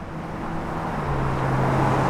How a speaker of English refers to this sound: A steady clip of cars zip along West Florissant Avenue. It's one of the busiest corridors in North St. Louis County, seeing tens of thousands of vehicles every day.